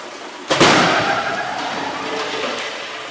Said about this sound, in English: Test will commence in 4 seconds. 3, 2, 1, we're underway. The pickup and its dummy occupant sit all innocent and unaware as the barrier zips down the hall, a guided drone intent on destruction.